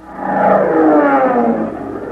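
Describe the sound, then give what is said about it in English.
A bee buzzes with a loud, steady insect-like drone, a rich, wavering hum that rises slightly and slowly drifts in pitch, lasting about two seconds with no talking. “That was bee 29.”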